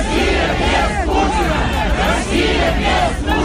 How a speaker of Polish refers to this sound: Rosja bez Putina, krzyczały tłumy w Moskwie.